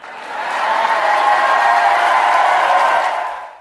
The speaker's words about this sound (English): Roaring applause.